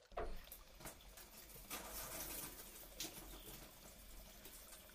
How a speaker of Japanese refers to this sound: ここに、ご奉仕する前に、まずは泡を流していきます。